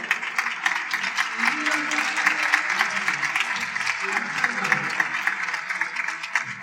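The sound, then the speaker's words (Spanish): An audience applauds its guests steadily for several seconds, a dense wash of clapping hands with a faint murmur of voices underneath, sustained at an even level throughout. “Para animar un poco ya el arranque, quizá podríamos aplaudir a nuestros invitados un poquillo.”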